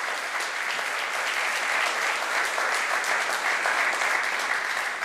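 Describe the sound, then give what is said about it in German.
An audience claps steadily, a dense wash of many hands at an even, fairly loud level that holds for about five seconds without letting up. “Genau, ihr dürft mal richtig klatschen.”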